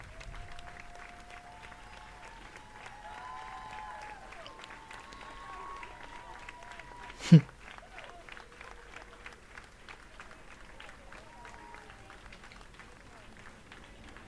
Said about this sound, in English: So they're like clapping and cheering.